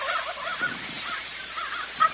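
wild turkey hens calling

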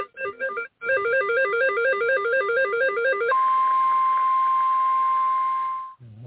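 telephone dialing tones

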